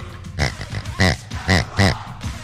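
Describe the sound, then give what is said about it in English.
A person imitates a pig, giving a thank-you in pig noises: a series of four or five loud, nasal oinks and snorts in quick, uneven bursts, with no other talking. “I'll do it in pig. I won't even speak common or human.”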